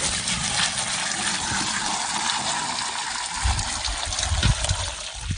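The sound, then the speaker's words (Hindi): Women draw and pour water to fill a vessel at an unlined (kachcha) well in Mungadih village, Babhani block, Sonbhadra. A steady gush and splash, with a few heavier low thumps and sloshes toward the end. “शहर की इन महिलाओं से उनके घर का हाल जानने के बाद हम सोनभद्र के बभनी ब्लॉक के मुनगाडीह गांव पहुंचे, जहां एक कच्चे कुएं से पानी भरती महिलाएं दिखी।”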